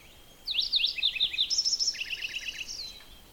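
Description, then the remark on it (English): A bird sings a loud, powerful, rich warbling song in several distinct parts, with quick rising notes giving way to a trilled, repeated phrase. The song is clear, with no talking, and the singer seems not to mind the recordist's presence. “So it's a multiple-parted song with that very rich, warbly kind of a sound to it.”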